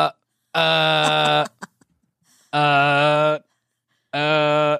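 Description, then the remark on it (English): Three loud, harsh electronic buzzes sounding like a smoke alarm, each lasting about a second, separated by short pauses with faint clicks between, no talking. “It's kind of like the smoke alarm?”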